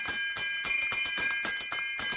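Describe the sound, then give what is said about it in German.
A hand-rung dinner bell, rung to announce the meal is ready, clangs rapidly and steadily, about eight bright strikes blending into a continuous ringing shimmer, fairly loud, with no voices. “Er klingelte mit der Jetzt-ist-das-Essen-fertig-Glocke so laut, dass man ihn bis nach Eschenweiler, wo der Bahnhof ist, hören konnte.”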